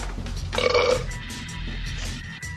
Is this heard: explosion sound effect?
no